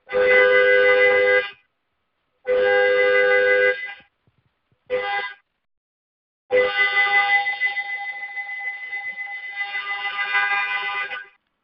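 A car horn sounds in a pattern: two long blasts, one short toot, then a final sustained honk lasting several seconds, loud, with brief silent gaps between.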